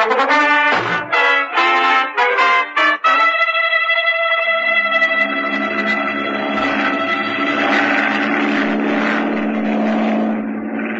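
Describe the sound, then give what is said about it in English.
A loud, droning propeller engine of a flying boat in flight at 5 a.m., sputtering in short bursts at first, then settling into a steady, rich hum that continues to the end. No voices. “How does anybody fish from a flying boat?”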